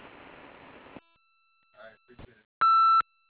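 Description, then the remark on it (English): An answering machine beep on the phone line of Titan Tool and Die: one loud, steady, mid-pitched electronic tone lasting under half a second, following a burst of hiss and a few faint, clipped bits of voice. “Hi, this is Titan Tool and Die, and we're unable to answer the phone at the moment. Please leave a message.”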